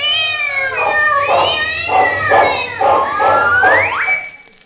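A cat meows loudly in one long, wavering yowl that pulses several times before rising in pitch at the end, with no other sounds around it.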